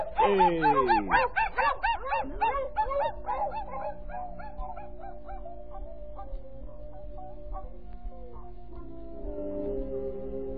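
A pack of sled dogs in harness, pulling a sleigh, yelps and barks in a loud, overlapping burst, then their calls thin out and fade beneath a steady, sustained tonal drone.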